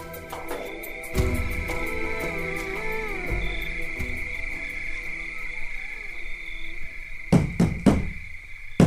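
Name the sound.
knocking on a door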